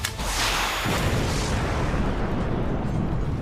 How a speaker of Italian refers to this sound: Volevi che non ci fosse un'esplosione, eh?